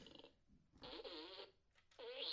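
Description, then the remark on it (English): Three buzzy fart sounds blown with the mouth, fairly loud, each a half-second to second-long raspberry separated by brief pauses, with no talking in between. “Three fart sounds.”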